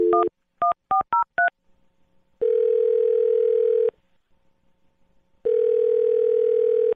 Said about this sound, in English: All right, I'm going to dial this phone right now, okay? Okay. All right, here we go.